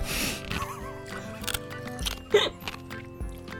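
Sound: crunching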